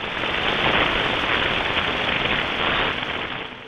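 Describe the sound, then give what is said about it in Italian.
A radio signal from space rendered as sound: a dense, steady crackling hiss like static or heavy rain, unbroken for several seconds before easing slightly at the end, with no voices. The 8.4 GHz signal was picked up on 24 May by the Medicina radio telescope near Bologna, Italy, and converted to audible frequencies. “Non è un'interferenza, non è un problema del vostro audio, è il segnale alieno captato lo scorso 24 maggio e trasformato in frequenze udibili.”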